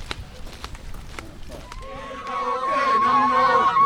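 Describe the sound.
Sharp claps give way to a loud crowd of voices cheering and chanting, with sustained high-pitched calls rising above the noise and growing louder toward the end.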